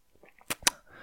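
A quick sip of water from a glass: two short, sharp clicks about a fifth of a second apart, with faint mouth sounds before them and a soft hiss after. No one speaks.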